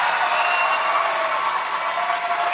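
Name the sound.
crowd cheering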